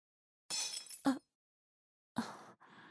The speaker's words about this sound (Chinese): 不好意思，都是我，怎么这么不小心，连杯子都打碎了。